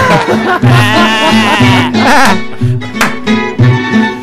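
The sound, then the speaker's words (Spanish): A goat bleats loudly in long, quavering cries, with a rhythmic musical backing pulsing steadily underneath throughout. “Y por supuesto, en los controles técnicos tenemos una cabra.”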